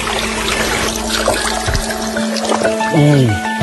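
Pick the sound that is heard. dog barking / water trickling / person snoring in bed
water trickling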